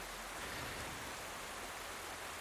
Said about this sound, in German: Du hörst jetzt einen Bach, genauer gesagt die Appelbach. Das ist ein kleines Flüsschen, kleiner Bach bei mir um die Ecke.